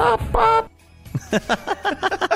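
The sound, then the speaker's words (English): A person imitates a chicken: a loud drawn-out squawk, a brief pause, then a rapid run of eight or so short clucking bawks in quick, choppy rhythm. “That's also you balking like a chicken.”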